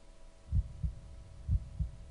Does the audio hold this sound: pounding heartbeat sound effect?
yes